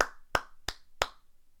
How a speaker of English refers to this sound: If the audio didn't come through well, that was a legit clap. That wasn't sarcastic, just in case.